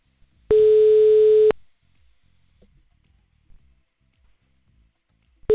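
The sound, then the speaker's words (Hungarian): A phone ringing tone heard from the caller's end, calling the listener of the day: one steady, buzzy, mid-pitched tone lasting about a second, then a long silent pause before the next ring begins, with no answer. “Egyszerűen, igen, nem veszi föl.”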